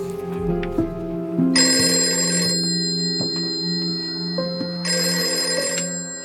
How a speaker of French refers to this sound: Jusqu'au moment où le téléphone sonne, enfin. Il est 21h45, une conversation s'engage.